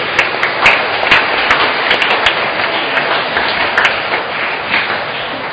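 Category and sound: crowd, applause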